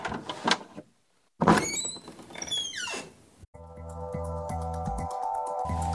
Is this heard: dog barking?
no